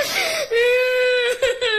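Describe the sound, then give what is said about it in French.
A young boy's high, drawn-out whimpering cry, fairly loud, rising into a wavering wail with a couple of short catching sobs near the end and no talking. “De toute façon, vous allez voir, même si on voit pas l'image, imaginez-vous un petit gars qui pleure.”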